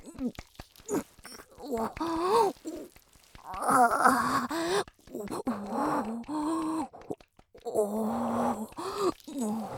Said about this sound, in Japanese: ごめんなさい、あくびします。